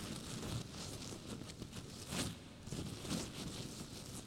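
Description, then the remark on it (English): Dry leaves rustle and crackle in a forest at 5 o'clock in the morning in a steady, uneven stream, with a few louder crunchy bursts standing out; no voices are heard. “Sheila woke up by hearing some leaves rustling.”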